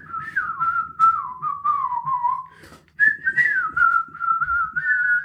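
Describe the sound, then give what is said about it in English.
A clear whistled tune, the rooster whistling the song in the film Robin Hood: a flowing melody of sliding notes that pauses briefly midway, then picks up again, over a faint low background rumble with no talking. “that rooster whistling the song, the being the...”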